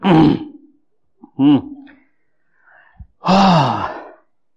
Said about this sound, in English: Oh, let's yawn.